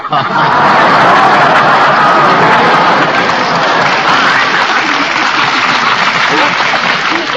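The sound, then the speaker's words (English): Sustained audience applause for a comedy gag, steady and dense, filling the whole stretch at a loud, even level without pause or fade. “Got applause with a gag like that.”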